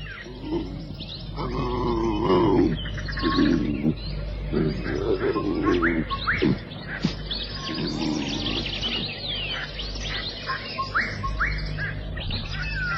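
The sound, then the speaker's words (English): At dusk, just after sunset, a bird cries out repeatedly with short, rising calls over a steady low rumble of outdoor ambience, while deeper grunting animal sounds come and go in the background. “For a moment, all is peace except for the cry of the bird.”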